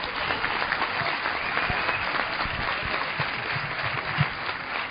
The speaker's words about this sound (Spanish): And I ask you to give a big hand to the translator. Y que le deis un aplauso.